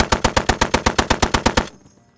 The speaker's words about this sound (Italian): Dal vicino bosco partono alcune fucilate e qualche raffica, ma i paracadutisti sono veterani con anni di guerra alle spalle e mettono in fuga i partigiani.